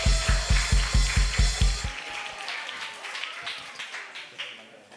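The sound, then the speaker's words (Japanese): An audience claps in a steady, loud unison rhythm of about four beats per second to welcome a young church member about to give a testimony before prayer, then it breaks into softer, scattered applause that gradually tapers off. “大きな拍手で迎えてください。”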